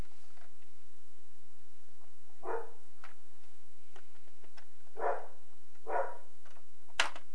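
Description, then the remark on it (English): A dog gives three short, quiet barks spaced a second or more apart over a steady low hum, then a sharp click sounds near the end. “Here, doggy. Ruff, ruff.”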